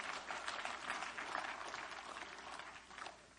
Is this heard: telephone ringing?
no